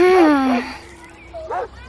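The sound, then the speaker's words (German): A dog playing frisbee in a park gives a drawn-out, high whining yelp followed by a brief pause and then a short, sharp yip, fairly loud with no talking. “Frisbee spielen mit dem Hund im Park zählt wohl nicht dazu, oder?”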